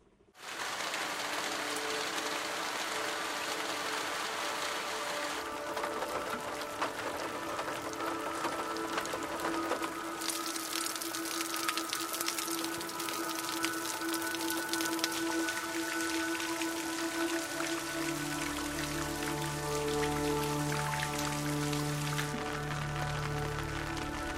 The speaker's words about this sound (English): And one of the things that happened to John Hull when he was losing his sight is he went outside one evening and it was raining, and he realised what rain did to the soundscape of his garden.